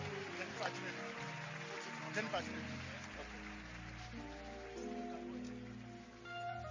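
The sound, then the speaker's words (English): A church audience claps for the Lord in a dense, steady wash of applause, mixed with sustained keyboard or organ chords and scattered shouts of praise throughout. “Give the Lord a big clap and a loud shout of praise.”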